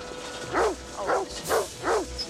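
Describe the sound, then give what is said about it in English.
A dog in a large dog cage, labeled New York JFK and pushed by a man, barks four times in a steady, evenly spaced rhythm, each bark a deep, rounded woof at moderate volume, with no voices around it. “Jake sees a man push a large dog cage labeled New York JFK”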